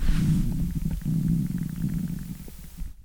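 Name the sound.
stomach growling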